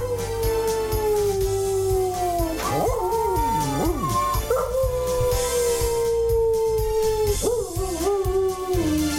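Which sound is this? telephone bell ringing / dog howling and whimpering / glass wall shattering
dog howling and whimpering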